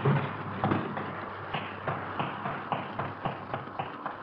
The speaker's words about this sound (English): The door's stuck. Can you get the front one open? I think so. I'll try. I think I can get it open.